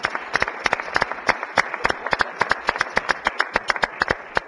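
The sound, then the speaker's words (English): Senators in the Missouri Capitol applaud journalist Bob Priddy as he stands at the media table: sharp hand claps overlapping in a steady, lively patter that holds for several seconds at moderate loudness, with no voices heard. “And let's give Bob a round of applause.”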